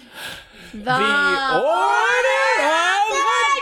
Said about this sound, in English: So, wait, did you get a natural 20? Mm-hmm. Then we have to cheer.